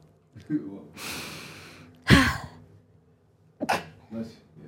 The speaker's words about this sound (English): I sneeze cute, y'all. All right, bless me.